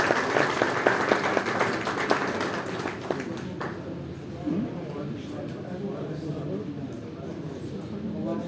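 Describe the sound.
Crowd applause with dense, sharp claps for the first few seconds, then fading into a softer murmur of voices and scattered noise, welcoming the new director-general of standards of Hamedan Province.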